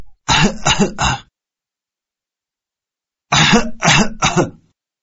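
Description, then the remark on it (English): Two harsh, rasping coughing fits, each a quick burst of three rough hacks, loud, separated by a couple of seconds of silence. “That sounds like a really bad cough.”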